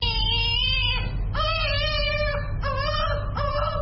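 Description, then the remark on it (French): A 4-month-old baby cries while receiving its second polio vaccine at the Chantal Biya Foundation hospital in Yaoundé, in four loud, high-pitched wailing bursts with brief catches of breath between them, over a steady low background rumble. “Bébé de 4 mois pleure en recevant son deuxième vaccin contre la polio à l'hôpital de la Fondation Chantal Biya à Yaoundé, la capitale.”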